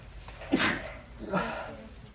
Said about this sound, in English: never sneezed on a microphone before. Sorry.